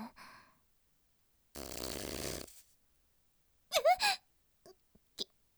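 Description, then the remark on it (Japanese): A stomach growls in one loud, buzzy, low rumble lasting about a second, followed after a pause by a few short, squeaky vocal whimpers and faint clicks. “違う、これはそのおならじゃなくて、そのお腹が鳴った音で。”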